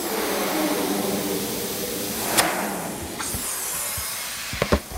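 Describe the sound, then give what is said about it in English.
Balloons pop in sharp, sudden bangs, about four of them, the last two in quick succession, over a steady, noisy hiss and rumble that fills the background. “The noise is quite something. Lots of popping, like that, right on cue.”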